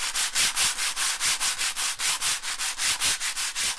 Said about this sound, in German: Doch das klangliche Resultat wirkt. Die Aufzeichnung der rhythmisch bewegten Sandpapierbrettchen erinnert durchaus an die Geräusche einer massigen Maschine.